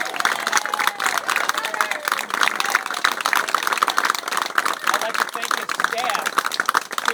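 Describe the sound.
An audience at a public event applauds a highway superintendent steadily for several seconds, a dense, even patter of many hands clapping at once, with faint voices murmuring underneath.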